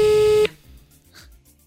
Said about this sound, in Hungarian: Nem érzem benne a kapkodást, hogy felvegy a telefon.